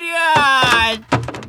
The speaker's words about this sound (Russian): Дверь едва успевает захлопнуться. С грохотом падает на пол, отлетев от двери костыль.